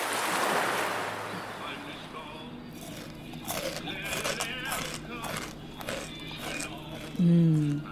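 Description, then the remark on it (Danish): Someone chews sugar crystals, a series of sharp, gritty crackles in an irregular rhythm over a soft hiss, with a brief voice sound at the very end. “Dejlig sød sukker. Det knaser, og så smager det jo bare godt.”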